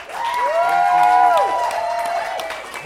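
A crowd applauds and cheers for about three seconds, with steady clapping noise and loud, pitched whoops and yells rising above it, sustained at a fairly even level throughout.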